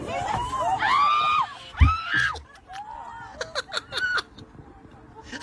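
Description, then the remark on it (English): Passengers on a Delta flight shriek in high, rising bursts at a loose pigeon on board, a scream or two standing out over a murmuring crowd, followed by scattered yelps and a brief nervous laugh. “Let's hear some screams on a Delta flight as a loose pigeon is snuck its way on board.”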